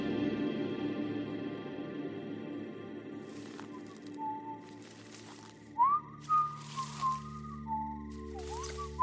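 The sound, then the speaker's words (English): Eerie human-like whistling outside a house rises and falls in pitch in a few short phrases over a low, steady droning hum, clear after several seconds of murky ambience. “Just outside the house, the whistling had started again, as perfectly clear and audible as if it was happening right next to your ear.”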